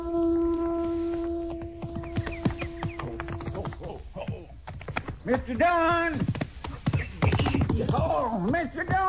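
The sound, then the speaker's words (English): Hooves clop in a quick, uneven rhythm, and a newly bought, edgy horse that has not been ridden much in the last couple of months lets out a couple of shaky, rising-and-falling whinnies over them, fairly loud. “Looky, I just bought me a new horse.”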